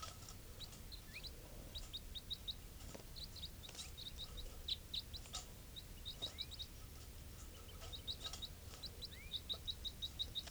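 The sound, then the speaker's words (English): One of the wild birds calls softly in quick, high-pitched chirps, repeated in short bursts across the whole stretch over a low steady rumble, with no talking. “Calling softly here.”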